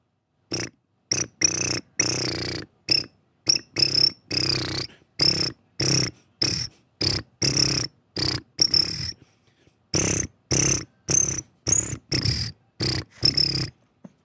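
Loud, close cricket-like chirps pulse in a steady, tune-like rhythm, with short bursts separated by brief silences and one longer pause partway through, and no talking.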